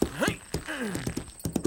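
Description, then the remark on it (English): Horse hooves clip-clop in a quick, uneven trot, sharp knocks fairly loud, with a brief whinny-like vocal sweep rising and falling between the hoofbeats, as the horse is ridden in a depiction of Paul Revere's midnight ride. “Get on the horse”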